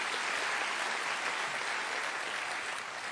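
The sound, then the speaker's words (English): An audience claps together in a steady, dense burst of applause that holds at an even level for about three seconds, with no voices heard over it, saying hello to the people watching a live download at the Lead Center. “So would you say hello with a clap to those who are meeting with us at the Lead Center?”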